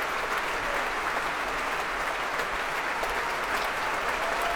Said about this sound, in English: Returning to the stage now to soak up some more of that applause, bringing the woodwind section to their feet.